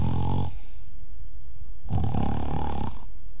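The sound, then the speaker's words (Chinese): A storyteller's voice imitates Kou Zhun's loud snoring: two long, rumbling snores separated by a quiet pause, harsh, with a throaty, growling texture and no talking. “不大会儿的功夫，就听寇准打上呼噜了。”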